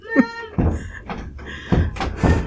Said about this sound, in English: Hold on, there's a kid knocking down my door.